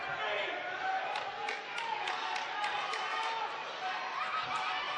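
A packed crowd at a women's basketball game roars steadily in the last two minutes, fans of both sides cheering, a dense wash of cheering and overlapping voices punctuated by sharp claps and shouts, loud with no single voice standing out.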